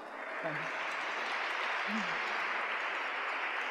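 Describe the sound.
An audience claps steadily for a colloquium on the asylum and the prison, in a dense, continuous wash of applause, with a couple of brief low voices murmuring underneath early on.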